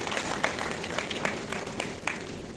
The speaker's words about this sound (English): Please give a big round of applause for all of our panelists here today.